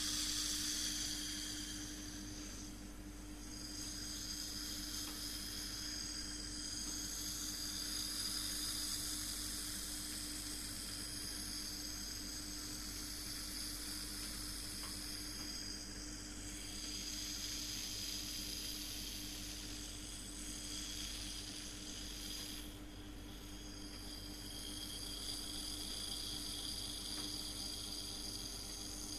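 An air conditioner left running loudly, a steady mechanical hum with a low tonal drone and a broad airy whoosh on top, unchanging for the whole stretch with no voices.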